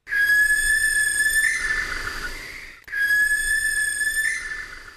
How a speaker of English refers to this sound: There you go. That's the screech of a barn owl.